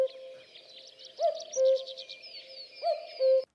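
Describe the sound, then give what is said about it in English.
A common cuckoo calls its two-note "cuck-oo" twice, clear, over a soft steady hum and a busy background of small birds chirping. “So, if you haven't guessed it, we're going to be talking about the cuckoo, which is a bird that you have now photographed, but for a little while taunted you.”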